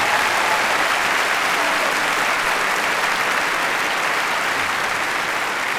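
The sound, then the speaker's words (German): A large concert audience applauds the a choir and the a choir, who are supporting the band on stage. Many hands clap steadily and loudly for several seconds with a constant broad roar and no talking. “Ja, gebt ihnen einen Applaus.”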